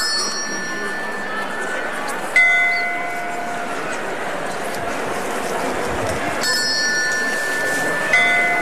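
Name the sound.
procession bell ringing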